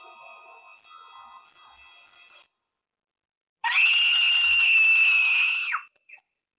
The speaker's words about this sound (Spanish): No pasaron más de 2 minutos cuando se dejó oír un grito aterrador.